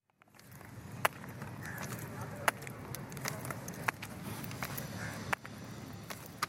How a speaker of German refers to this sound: Mit kleinen Schritten, gestützt auf Krücken, bewegt sich